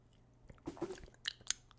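Wet mouth sounds of someone sipping a cinnamon drink, a slurp followed by two quick sharp smacks, fairly quiet with no talking.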